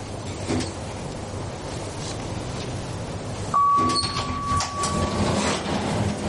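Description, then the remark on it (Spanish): A steady mechanical hum of an elevator descending, then a louder clunk as it arrives at street level, followed by a sustained electronic chime tone lasting about two seconds. “El ascensor llega a pie de calle.”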